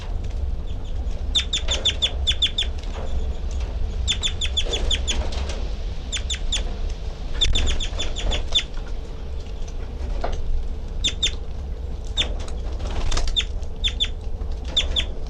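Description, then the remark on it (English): A caged bird, the female labelled 3-3, flutters about in the cage, its wings flapping in short irregular bursts, with quick high ticking chirps repeating in clusters over a steady low hum; no one speaks. “She's flying around in the cage.”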